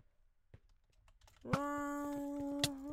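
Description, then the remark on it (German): A few sharp keyboard key clicks, sparse and irregular, as the W key is pressed on a nearly broken keyboard that is not responding, with a steady buzzing tone from a game joining halfway through and continuing under the later presses. No one speaks. “Ja, ich glaube, meine Tastatur ist bald komplett broken. Ich drücke einfach W, aber es reagiert nicht.”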